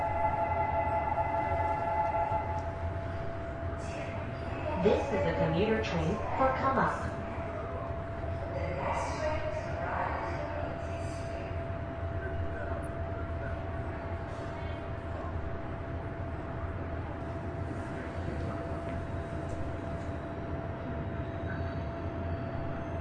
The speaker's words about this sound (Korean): 고객 여러분 안녕하십니까? 이 열차는 거만역까지 운행하는 일반 열차입니다.